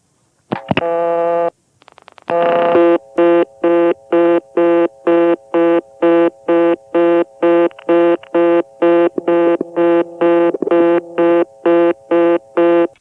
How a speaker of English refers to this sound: Here's one in Sperryville, Virginia. Now I'll record the sound of dialing 5 and shooting over to reorder.